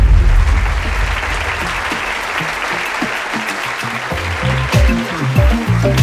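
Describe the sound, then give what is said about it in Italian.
A crowd applauds steadily, a dense wash of many hands clapping at once that holds its level for several seconds, with a few louder individual claps standing out near the end. “Si sollevò, planò e poi precipitò, ma fra gli applausi del pubblico.”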